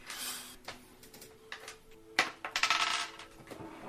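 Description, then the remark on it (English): Dice rattle and clatter across a surface in bright, clicky bursts, a quick tumble of taps that settles, then another louder flurry of knocks, as a player burns dice on a roll for a song. “I'm going to have to burn some dice on this.”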